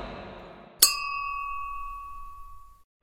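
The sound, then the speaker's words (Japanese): A single bright clink of glasses touching, followed by a clear ringing tone that fades slowly over about two seconds. No voices are present. “キミモル雑談に乾杯。”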